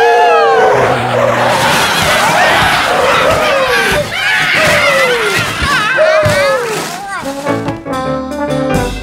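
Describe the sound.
A truck's loud, repeated screeching skids wail over a clamor of shouting voices. Near the end comes a burst of crashing, clattering impact as the truck hits the creatures and runs them all down.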